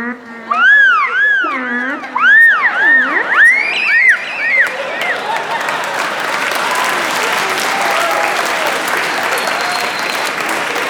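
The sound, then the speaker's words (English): A human voice imitates whales mating with a string of swooping, wavering wails that rise and fall in pitch for several seconds, then a crowd breaks into loud, sustained applause. “This is whales having sex.”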